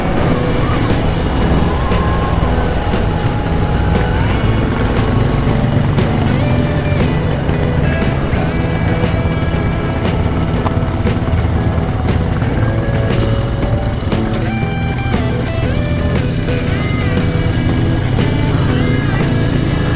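Heavy truck engines rumble loudly and steadily as the trucks of the Resto du Cœur and the Secours Populaire roll past in a slow line at the end of a street procession, with clattering street noise over the deep drone throughout.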